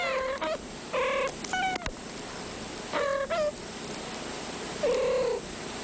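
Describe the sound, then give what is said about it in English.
A house kitten purrs steadily while letting out a handful of short, high-pitched meows at uneven intervals, some in quick pairs; no one speaks. “House, it's a kitten.”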